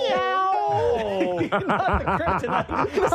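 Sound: cat meowing sound effect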